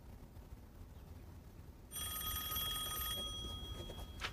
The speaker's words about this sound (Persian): میشه یه نفر اون تلفنو جواب بده؟